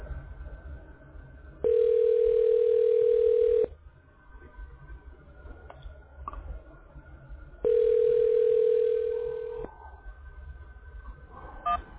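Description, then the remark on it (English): A telephone ringing tone sounds twice, each steady electronic burst lasting about two seconds with a long pause between, heard clearly over faint background hum. “ringing.”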